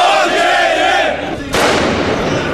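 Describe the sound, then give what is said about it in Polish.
A loud crowd of trade unionists demonstrating in Szczecin, Poland shouts and roars while sharp firecracker bangs burst through, over a sustained wailing siren tone that drops out partway before a fresh burst of noisy crowd. “W huku petard przy wyciu syren odbyła się manifestacja związkowców w Szczecinie.”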